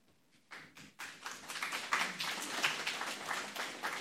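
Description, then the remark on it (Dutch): Audience applause starts with a few separate claps, then swells into steady, dense clapping from a crowd that carries on at a moderate level. “Die applaus is voor ons hier.”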